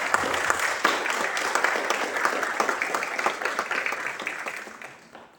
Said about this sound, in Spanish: Quiero felicitar y también quiero pedir un aplauso a la familia porque hoy día están empezando a cumplir su sueño. Así que un gran aplauso para la familia.